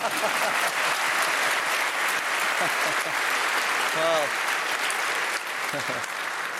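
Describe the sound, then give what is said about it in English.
Sustained audience applause at a debate, a dense, steady clatter of many hands clapping at an even loudness, with a man's voice briefly speaking over it near the end. “Now the applause.”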